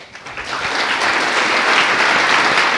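Audience applause swells quickly and holds steady, a dense, even wash of many hands clapping at once, fairly loud with no voices over it.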